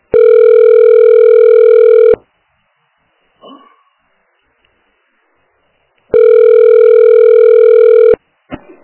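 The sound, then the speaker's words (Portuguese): Two long, steady electronic telephone ringback tones, each about two seconds, separated by a pause of roughly four seconds, with a faint click in between and another brief blip at the end, heard while calling a health clinic and waiting to be answered. “Você ligou para Unidade de Saúde Centro. Aguarde para ser atendido.”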